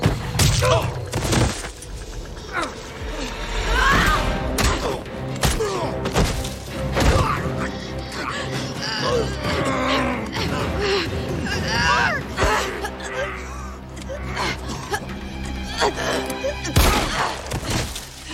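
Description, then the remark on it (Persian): Several sharp gunshots crack out at irregular intervals, loud, amid a chaotic, busy background with voices and shouting mixed in. “صدای چی بود؟ شما شلیک کردید؟”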